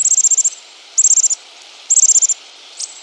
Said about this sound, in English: Do you recognize this sound? It's the twittering of bush tits. Measuring barely over 3 inches, the brownish-gray bush tits usually flock in batches of 20 or more.